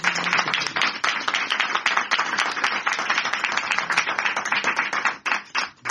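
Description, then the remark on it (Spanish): A crowd breaks into sustained applause, many hands clapping in a dense, steady wash of sharp claps that stays loud throughout before thinning slightly at the very end. “Pues un aplauso por habernos contado.”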